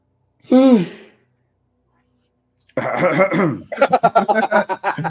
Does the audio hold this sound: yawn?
yes